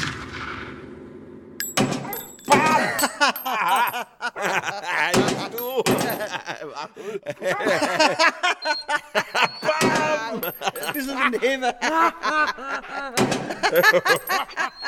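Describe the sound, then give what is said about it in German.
Several sharp, small-caliber gunshots crack out at irregular intervals, each a short loud pop, while people talk almost continuously over and between them. “Ich halte die Schießerei nicht aus. Hört auf. Wieso? Das ist doch bloß ein Kleinkaliber.”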